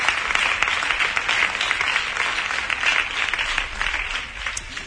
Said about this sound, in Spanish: Así que, antes que nada, voy a pedir un fuerte aplauso para el Distrito 5 por esta bonita propuesta y que ustedes sean los protagonistas. Enhorabuena.